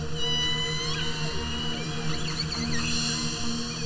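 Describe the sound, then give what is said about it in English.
Underwater recording of killer whale calls, picked up by a hydrophone lowered over the side of a boat off Canada's west coast, with rising and falling whistle-like tones and squeals layered over a steady low hum, continuous, no voices. “If you head into the waters off Canada's west coast and drop a microphone, well, a hydrophone, over the side of the boat, you can eavesdrop on the conversations of killer whales.”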